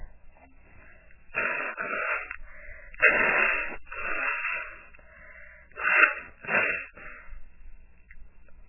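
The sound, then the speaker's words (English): A person blows their nose in several forceful, rushing bursts over a few seconds, with short pauses between them, and no talking. “Okay, I guess I have to blow my nose now.”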